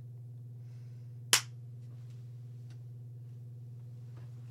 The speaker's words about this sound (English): Okay, I'm clapping.